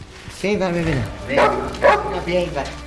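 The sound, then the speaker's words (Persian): A dog gives a drawn-out whining yelp, then lets out three short, sharp barks spaced about half a second apart, fairly loud, as it looks at a man and comes forward. “یه سگ داره رامین رو نگاه میکنه. میاد جلو.”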